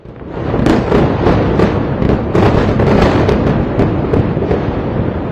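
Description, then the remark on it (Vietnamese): Loud, dense booming and crackling blasts roll on continuously, with sharp bursts every second or so over a thick rumbling roar: a barrage of large explosions near Beirut's main airport, south of the Lebanese capital. “Nhiều vụ nổ lớn xảy ra gần sân bay chính của Beirut ở phía nam thủ đô Lebanon.”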